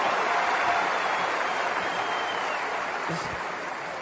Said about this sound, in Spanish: Vamos a darles un súper aplauso, una gran ovación a las personas que vienen por primera vez a una convención.